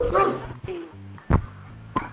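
A dog barks in short sharp bursts, a cluster at the start and then single barks spaced out, fairly loud against a low steady hum.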